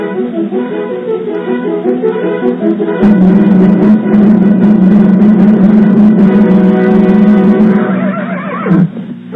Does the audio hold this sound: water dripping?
no